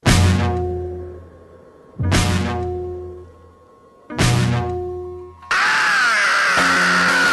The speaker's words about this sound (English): What kind of scream is that? What was that? That's like a Howard Dean scream, for God's sake.